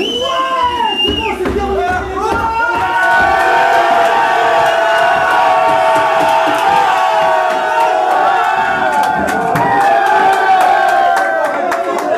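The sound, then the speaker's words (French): A loud, sustained roar of Morocco football supporters cheering and chanting in a stadium in Doha after their team's win over Portugal, thousands of voices blending into a steady wall of sound with shrill whistles and shouts rising above it. “Les supporters du Maroc peuvent laisser éclater leur joie et débriefer la rencontre.”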